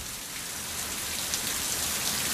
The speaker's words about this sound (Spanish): La música que conocemos de un arroyo de montaña, que uh-huh. va creciendo, sumando caudales, suena al fondo algún pajarito, petirrojo.